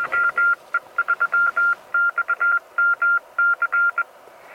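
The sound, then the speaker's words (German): A steady mid-pitched Morse code (CW) tone from a CW radio station, keyed in quick dots and dashes over a faint hiss of radio noise, sending a continuous burst of characters with no voice. “So, gibt es noch eine CW-Station, die bestätigen möchte?”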